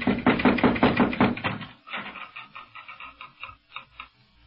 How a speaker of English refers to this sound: No, but here, let me knock.